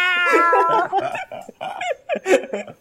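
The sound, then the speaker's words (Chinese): A house cat that has jumped onto a person lets out a drawn-out meow lasting under a second, followed by a few short bursts of people laughing and chattering. “我们家的猫啊， 他家的猫， 啊，跳在我身上”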